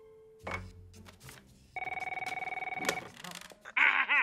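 A telephone bell rings in a rapid, steady trill for about a second, bracketed by short clattering and electronic blips; loud, with no one talking.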